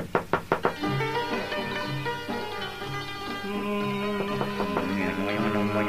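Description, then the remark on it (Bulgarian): An old man knocks four quick, evenly spaced times on the door of a house in the town of Bursa at the start, then sustained instrumental music takes over for the rest. “Намерил къщата на умниците и почукал на вратата.”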